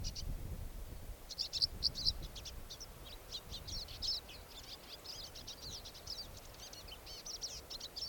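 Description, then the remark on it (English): A bird that has just flown up, apparently a male, calls in a rapid, continuous series of high, thin chirps and trills, fairly faint, over a steady low rumble of strong wind noise. “Oh, another bird just flew up. This is a different bird.”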